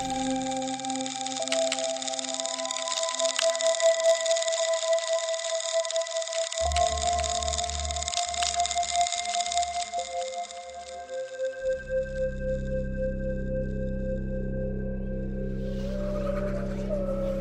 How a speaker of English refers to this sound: You might mistake it for one rock scruffing against another. But however tuneless, the rasp of Permostridulus brongniardi became what biologist David George Haskell calls the first known earthly voice.